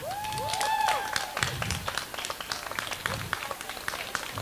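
An audience applauds the weekend's organizers, a dense patter of many hands clapping at moderate loudness, with a few whistles rising over it near the start.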